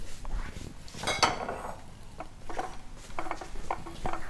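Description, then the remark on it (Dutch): Plates and bowls clattering against each other in a quick series of sharp clinks and knocks, with one louder ceramic clash early on followed by lighter scattered taps. “Eén bord. Een kom.”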